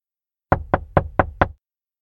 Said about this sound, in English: Suddenly, there's a knock on the door.